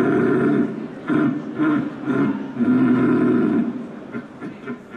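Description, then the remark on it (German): A person imitates a rutting stag's bellow: loud, deep, throaty roars in several drawn-out bursts, unaccompanied, with a longer sustained call near the middle. “Der Sieger oder die Siegerin sowie die Plätze 2 und 3 können dann morgen bei der Europameisterschaft im Hirschrufen antreten.”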